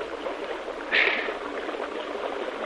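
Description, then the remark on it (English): Steady rushing water with a short, louder splash about a second in, as a group of men wade through a river keeping their rifles out of the water. No one speaks. “no talking when we get down into the river”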